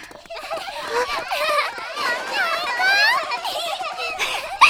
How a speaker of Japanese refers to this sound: 元気な子供たちね。